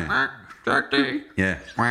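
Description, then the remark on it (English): Several short, nasal quacks in quick succession, voiced by people imitating a duck, each burst loud with brief gaps between them. “when they quack as well, it sounds a bit like they're saying Jack”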